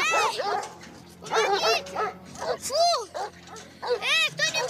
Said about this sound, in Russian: Выбегают собаки. Фу, пошла прочь.